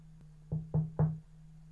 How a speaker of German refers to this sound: Klopf, klopf.